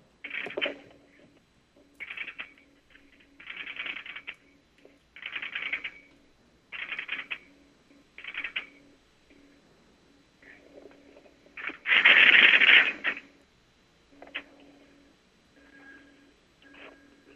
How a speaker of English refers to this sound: that's going to be the relays of the marker that are actually switching the call through